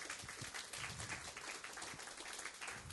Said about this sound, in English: All right, can you give God another hand clap of praise?